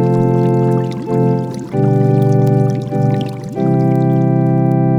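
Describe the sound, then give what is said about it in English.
Water gushes steadily into a bathtub as a bath is run, a loud continuous rush with a humming, resonant tone that shifts slightly in pitch as it fills, uninterrupted. “Well, I am trying to take a bath, Ma.”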